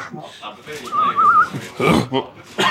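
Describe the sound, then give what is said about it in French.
A short, wavering whistle, from a man reacting after downing a strong shot drink, rises and wobbles for about half a second amid lively voices and background chatter, followed by more talking and commotion. “Oh non, ça le fait siffler.”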